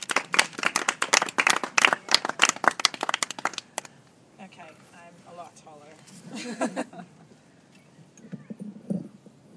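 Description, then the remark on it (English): An audience claps in a loud, dense burst of applause for several seconds for a performer being introduced, then it fades out and a voice begins speaking over a few scattered claps. “So a huge round of applause for the lovely, versatile, and just brilliant in every way”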